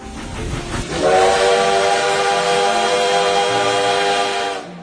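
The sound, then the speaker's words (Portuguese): A locomotive steam whistle blows one long, loud, steady blast lasting several seconds, its shrill layered tone riding over a rush of hissing steam before cutting off. “Há mais de uma década, Luiz Jorge Ulinick, ferroviário aposentado em Porto União, cidade que fica a 430 quilômetros de Florianópolis, em Santa Catarina, trocou os trilhos e o apito de locomotivas.”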